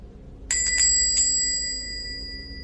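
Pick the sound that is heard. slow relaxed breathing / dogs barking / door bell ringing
door bell ringing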